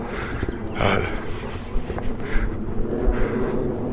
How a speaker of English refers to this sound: And listen to those airplanes up above us.